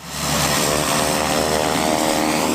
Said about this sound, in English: A PC-12 aircraft is taxiing off the Platinum runway. It was one of dozens of airplanes bringing in people from across the state to witness the ceremonial opening of the new processing plant.